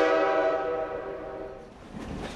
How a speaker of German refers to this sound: Der Train pfeift, man geht, man geht!